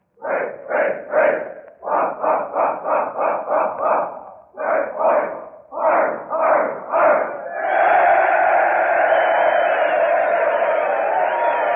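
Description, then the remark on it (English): A large group of West Point military cadets, gathered in Main Hall with enlisted men, shouts the short corps yell in loud, rhythmic unison, with clipped syllables in quick clusters, then breaks into a sustained, roaring cheer that holds to the end. “And here's the short corps yell.”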